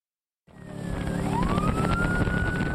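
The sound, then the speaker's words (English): A police boat of wildlife officers speeds along the Columbia River with a loud, steady engine roar, chasing a boat of suspected poachers carrying illegal sturgeon. A siren wails and rises in pitch, kicking in abruptly after a brief silence. No one speaks. “It's a high-speed pursuit in an unlikely place, the Columbia River. Wildlife cops are chasing a boat with illegal sturgeon on board.”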